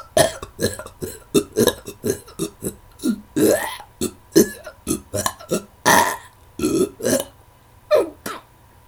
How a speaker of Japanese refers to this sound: くっさー、あんた何食べたらそんな臭いゲップが出るわけ？っていうかさ、もともと口臭もきついんじゃないの？